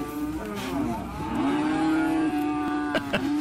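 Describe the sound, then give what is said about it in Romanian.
A cow lets out a long, loud, drawn-out moo that rises slightly and then holds steady for several seconds, on the streets of Iași, with a couple of faint clicks near the end and no talking. “Oarecum în context, îmi permit să spun, primăria a făcut un apel la cetățeni zilele trecute, apel prin care le roagă pe cetățenii pe ieșeni să nu mai lase cai și vacile libere pe străzi, străzile din Iași.”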